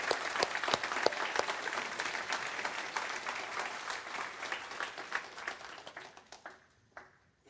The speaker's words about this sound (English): Y estamos muy emocionados de que tengamos aquí a la congregación hispana de la iglesia de Henderson, Kentucky. So Pleasant Valley, let's give them a warm welcome and a round of applause. Una bienvenida calurosa.